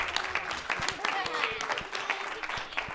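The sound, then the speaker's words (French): A crowd applauds the participants of a collective production, many hands clapping steadily in a dense, crackling wash with sharper individual claps standing out; faint voices murmur underneath. “Je crois qu'on peut tous les applaudir.”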